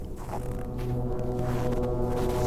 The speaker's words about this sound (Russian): То, что мы слышим вот сейчас – это гудки самых обычных локомотивов.